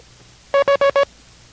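International Morse Code letter V (Victor) tapped out as four quick, evenly pitched electronic beeps in a fast run, the last one slightly longer, standing out loudly against faint background hiss.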